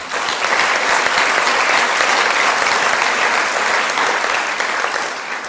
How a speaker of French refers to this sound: Donc merci à l'esprit collectif des promotions. Donc je pense qu'on peut aussi applaudir l'ensemble des élèves.